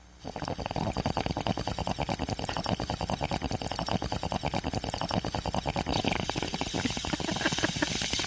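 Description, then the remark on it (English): A steady, rapid bubbling gurgle of water churning through a bong, layered with a continuous airy hiss, sustained at an even loudness for several seconds with no talking. “Birthday lad requested a bong hit, a beaver fart, and thrill shotgun gets in that order.”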